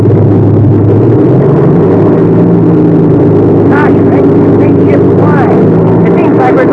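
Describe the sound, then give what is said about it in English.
The warmed-up engine of a new, factory-fresh airplane roars as it takes off, a loud, steady, low droning rumble that holds without a break, with faint muffled voices underneath. “Okay, the engine's warmed up. We'll take off first.”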